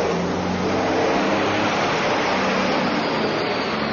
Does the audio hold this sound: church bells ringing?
no